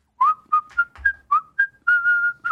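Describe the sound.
A single person whistles a short, upbeat patriotic tune in clear notes, with a few quick phrases ending in a longer held note, and no talking over it.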